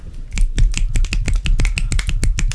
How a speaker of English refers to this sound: Poetry snaps.